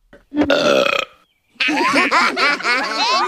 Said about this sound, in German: aber er rülpst ständig. Und dieser Kontrast wird halt wiederum als komisch empfunden, weil ein Rülpser immer irgendwie quer zu dem steht, was sozial erwartet wird. Und das gilt selbst in einer Kneipe.